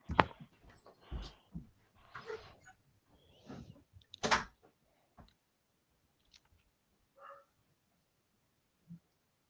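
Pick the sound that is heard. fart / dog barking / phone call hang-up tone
dog barking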